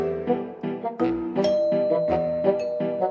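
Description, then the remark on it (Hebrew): A chiming doorbell rings out in a quick series of bright, resonant tones that overlap and linger, clear with no voices; it is the front-door bell of Bilbo's hobbit hole in The Hobbit. “אך ערב אחד צלצל פעמון הכניסה של המאורה שלו”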